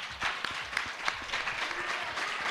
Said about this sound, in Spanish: Yo creo que te vamos a despedir con un aplauso. Yo creo que sí, ¿no? Sí.